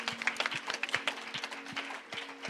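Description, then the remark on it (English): A crowd at a church service in San Antonio, Texas claps together in a steady, dense patter of applause for a few seconds, with a faint electrical hum underneath and no one speaking. “Come and put your hands together and clap for Jesus.”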